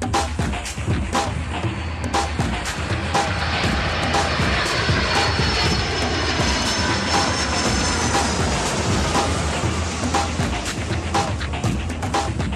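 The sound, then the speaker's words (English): A small airplane engine drones steadily throughout, a loud, continuous propeller hum with faint tonal whines riding above it and no voices. “Oh, by the way, Greg, if you're still at 7,000 feet, it's probably time to land.”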